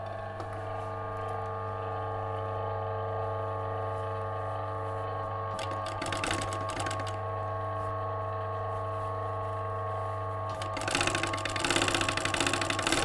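A blind hem stitch sewing machine motor hums steadily, with bursts of rapid mechanical clatter as it sews an invisible looped stitch of the kind used on trouser and skirt hems, briefly mid-way and again more loudly near the end. No one speaks.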